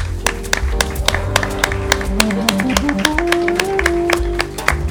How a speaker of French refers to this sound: On les remercie et je propose qu'on applaudisse aussi, tous les enfants qui ont participé à cet énorme travail.